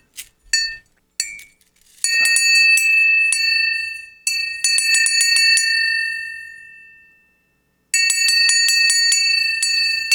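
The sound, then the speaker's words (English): A small metal bell that has been through an atomic blast is struck several times, a few light taps, then loud bright rings that sustain and slowly fade between strikes. No voices are heard. “I've tried to get that bell for 15 years.”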